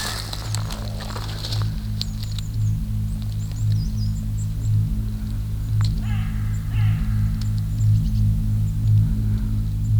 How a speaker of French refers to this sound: Peut-être que le corbeau est effrayé par le son de l'avion. Pollution sonore notable.